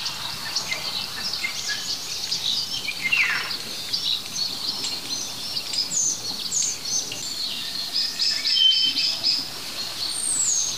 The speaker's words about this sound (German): Handyklingeln, würde ich fast sagen, arttypisches statisches Knistern und Knarren, Pfiffen und Rotmilane und Mäusebussarden. Wenn all das aus einem Baum kommt, ist es höchstwahrscheinlich der Star der Vogelwelt. Der Star.